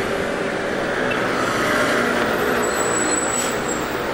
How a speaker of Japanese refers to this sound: バスが止まる。あ、バス立派だな。